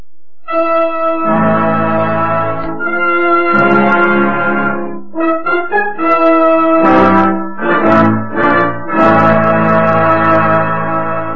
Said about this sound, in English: Three chimes mean good times on NBC.